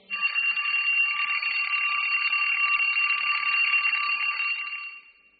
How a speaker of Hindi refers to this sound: उठ जा बेटा, कब से अलार्म बज रहा है, कॉलेज के लिए देर हो रही है।